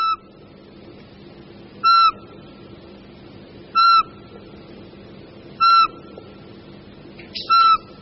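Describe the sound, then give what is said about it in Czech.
A Eurasian pygmy owl gives a series of five clear, piping whistled notes, evenly spaced about two seconds apart, each note loud against a steady low background rumble. “Za tímto melodickým pískáním asi jen málo kdo z vás, myslím, hádal sovu.”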